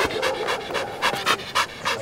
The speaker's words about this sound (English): a Belgian Malinois, sleek, lean, dappled gray and black, panting happily on a patch of grass way up in the hills of northeastern Alabama.